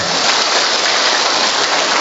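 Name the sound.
audience applause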